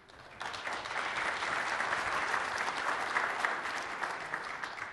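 A crowd at a tech demo bursts into steady applause and cheering for an audience member who just won 4,000 Xbox Live points, loud and sustained for several seconds, with dense clapping and a few scattered whoops throughout, and no one speaking over it.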